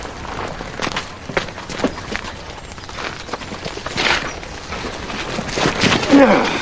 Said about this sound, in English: Zach, Charlie, and the thieves ride toward them. Looking back at Charlie, Zach stops on his horse. As the others stop, Charlie dismounts.